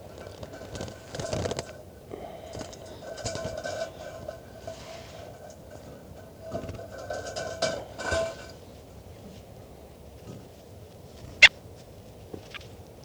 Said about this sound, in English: So recording, this is bird 410 being handled.